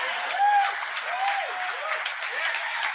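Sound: crowd applauding and cheering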